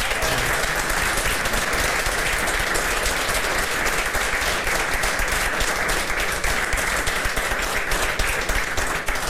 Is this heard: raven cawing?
no